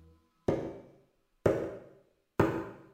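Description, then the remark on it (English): Three sharp knocks, about a second apart, each hitting hard and ringing out briefly before the next. Fairly loud, with no voices, only quiet between the blows. “Oh, we've got a knock.”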